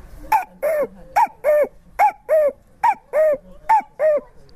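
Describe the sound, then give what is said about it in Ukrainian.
A man's voice imitates a cuckoo, repeating a clear two-note "cu-coo" call five times in a steady rhythm, a short higher note followed by a longer lower one, fairly loud. “Когда отец был лесником, я с ним, и я потихоньку начал с мелочей, вот с птички. Кукушечка.”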